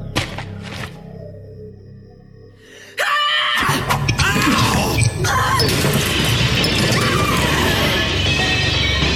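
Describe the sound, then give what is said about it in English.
A sudden loud crash of breaking glass bursts in after a quiet moment, followed by a dense, chaotic wash of noise and clatter that stays loud to the end. “There's glass in my face.”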